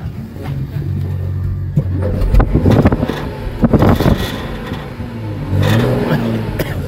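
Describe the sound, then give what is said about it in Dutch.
A Porsche hybrid car engine starts up and revs several times, the throttle rising in bursts before settling into a steady, throaty idle, with some wind buffeting the microphone. “Ja, dat is inderdaad een Porsche hybrid.”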